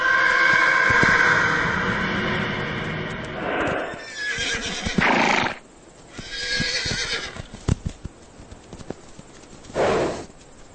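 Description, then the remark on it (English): Mustang horses whinny loudly and repeatedly, with a long harmonic neigh at the start, followed by scattered hoofbeats clopping on the ground and short snorting bursts, with no one talking. “Bred to carry the weight of a rider, Mustangs are larger than those early wild horses, but they still display the same kind of behaviour.”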